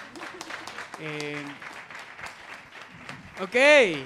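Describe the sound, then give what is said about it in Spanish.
An audience claps steadily for several seconds, a dense patter of hands, with a sustained vocal cheer partway through and a loud rising-and-falling whoop near the end. “Bueno, otro aplauso, por favor.”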